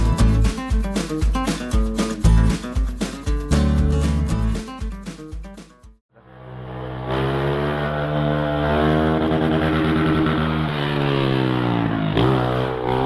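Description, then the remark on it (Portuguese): A loud CG motorcycle with its exhaust removed sputters with choppy, pulsing revs, then breaks into a sustained blaring roar as it accelerates past houses at 11:30 at night. No one speaks. “É, ser homem é não tirar o escapamento da CG e passar na casa dos outros às 11h30 da noite.”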